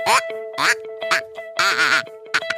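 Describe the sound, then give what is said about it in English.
A kazoo duck call blows about six buzzy, nasal quacks in an uneven rhythm, fairly loud, with a faint steady tone droning underneath. “Maybe you want to take your Northwoods kazoo out to the lake this weekend. Give it a few toots.”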